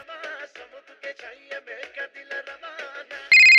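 A phone ringtone plays a quick, bright electronic melody of short repeated notes, clear, then jumps abruptly into a louder, harsher tone at the end as someone calls.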